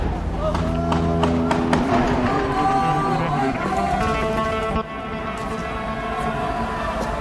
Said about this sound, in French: La foule s'en va en courant, apparemment. Des véhicules des forces de sécurité se rapprochent.